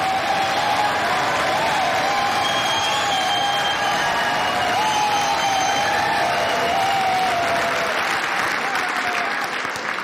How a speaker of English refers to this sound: Thank you for that very generous applause.